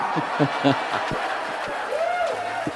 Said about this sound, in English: You cheering my roaster? That's not me. That was me. That was actually us cheering. That was that was the room.